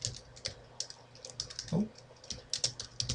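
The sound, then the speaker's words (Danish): Rapid, uneven keystrokes clatter on a computer keyboard as a person's name is typed into a box for a new contact, a steady stream of light clicks with no one speaking. “Her kunne du lige skrive.”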